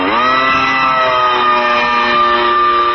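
A hovering MAV (Micro Air Vehicle), a military drone used as a portable camera system by the Miami-Dade County Police Department, gives off a loud, steady mechanical buzz with a rich, whining hum that holds an even pitch throughout, with no voices.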